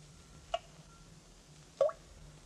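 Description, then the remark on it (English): Two single water drops plink into a pool in an underground cavern about a second apart, each a short, bright, ringing splash over a faint low hum, with quiet stillness between them. “That steady drip. Drip of water.”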